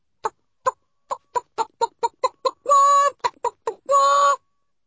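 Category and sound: bird, chicken clucking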